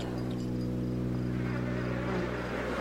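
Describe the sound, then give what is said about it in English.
A steady, droning buzz of hungry mosquitoes trying to get into a tent at camp fills the whole stretch, thick and continuous, with no voices and no break in the hum. “And how can you sleep with all those hungry mosquitoes trying to break into your tent?”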